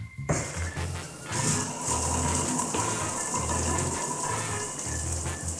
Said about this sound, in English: Law, permission for shower access. Daily ration, please. Permission granted. Your 3-minute water ration begins now.